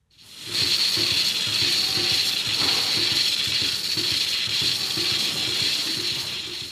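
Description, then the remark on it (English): A robotic milking machine milking a herd of 115 Montbéliarde cows at Michael Guinan's dairy farm outside Rahan, County Offaly, Ireland, runs steadily, with a continuous mechanical hiss and a rapid, rhythmic clicking and pulsing underneath, like a ratchet. There are no voices. “A robotic milker works away on Michael's 115 Montbellard cows.”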